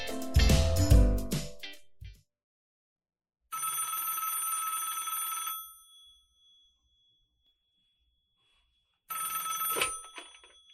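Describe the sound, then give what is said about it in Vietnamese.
A loud metallic clang opens, then an old-style telephone bell rings in two long, bright bursts separated by a pause of silence. The ringing is fairly loud, with no voices. “Anh đang nghe điện thoại của em.”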